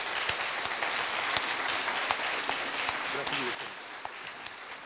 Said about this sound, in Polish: Wielkie brawa dla laureatki, dla nominowanych. Dziękujemy Państwu bardzo.